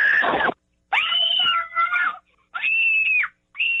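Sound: people screaming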